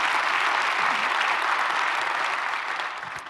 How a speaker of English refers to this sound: And so, by applause, would you just help me welcome everybody as we are one church in a variety of locations.